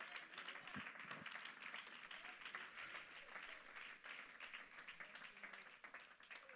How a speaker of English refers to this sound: Come on, somebody, clap your hands on a Monday.